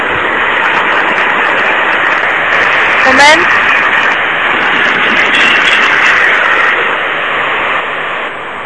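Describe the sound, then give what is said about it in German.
Constant loud rumbling hiss of a moving train fills the background throughout, with a person talking over it and a brief rising whine midway. “Ja, schon wieder im Zug.”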